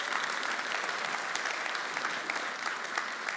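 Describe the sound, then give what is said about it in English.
A crowd applauds people married at least 25 years who are standing up: a dense wash of many hands clapping at once, sustained at an even level throughout with no voices standing out. “Yeah, you guys can clap.”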